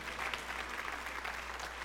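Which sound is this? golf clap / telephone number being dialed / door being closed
golf clap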